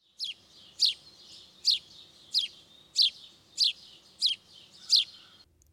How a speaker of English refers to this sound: House sparrow.